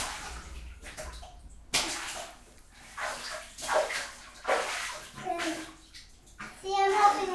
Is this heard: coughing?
no